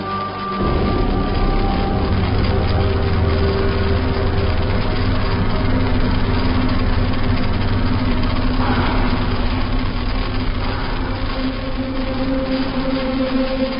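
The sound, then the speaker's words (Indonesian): A car engine runs steadily at low revs as the car reverses, a deep continuous hum with slight shifts in pitch, with no voices. “Aku memundurkan mobilku. Akhirnya aku keluar dari jalan itu.”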